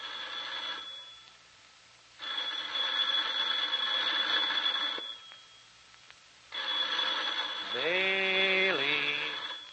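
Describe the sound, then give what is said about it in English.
A telephone bell rings in three long, loud bursts with short silent gaps between them, a harsh, metallic, high-pitched jangle. A brief wavering tone rises over the end of the last ring. “Ringing, Maley.”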